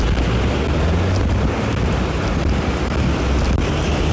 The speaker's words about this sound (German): Ja, hier ist wirklich noch ein bisschen windig.